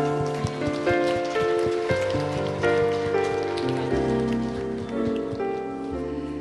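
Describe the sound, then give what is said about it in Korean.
A church audience claps steadily and continuously in encouragement of one another, a dense, even patter of many hands, while sustained keyboard chords play underneath throughout. “그리고 우리를 하나님의 나라에 세워나가는 동력자로 함께 모인 우리 옆에 있는 지체들에게도 같이 격려의 박수 쳐줄까요?”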